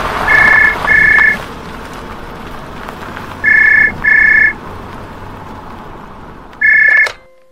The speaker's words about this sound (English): Yeah, I'm just parking the car.